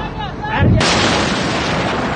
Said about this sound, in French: Sur les dizaines de vidéos qui circulent sur les réseaux sociaux, une épaisse fumée orange et noire s'échappe du port de Seyd Rajaï. Un incendie suivi d'une puissante explosion.